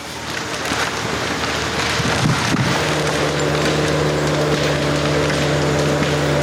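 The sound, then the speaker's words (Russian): A tree being felled in a managed forest for a sawmill gives way with cracking, splintering wood and a broad crash about two seconds in, then a steady low machine drone continues under constant rustling noise. No one speaks. “Сейчас пора валить деревья.”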